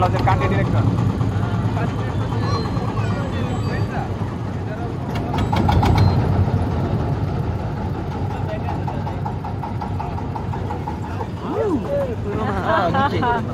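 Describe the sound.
A boat engine drones steadily throughout as the boat negotiates a tight turn in shallow water within a maze of waterways, its low rumble shifting slightly in pitch as it works, with faint voices murmuring underneath and a brief voice near the end.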